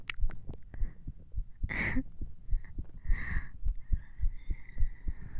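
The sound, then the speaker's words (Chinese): A woman's rapid heartbeat thuds muffled in a quick, steady rhythm while she is being hugged, with soft rustling and faint breathy noise drifting over the beats. “姐姐的心跳现在跳得好快呀、姐姐现在有一点点的小紧张呢”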